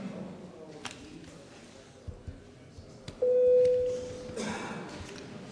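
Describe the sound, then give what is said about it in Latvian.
A single steady electronic tone sounds for under a second, loud and clear over the low murmur of a large hall: a bell rung in parliament to call deputies to vote on a proposal. “Lūdzu zvanu.”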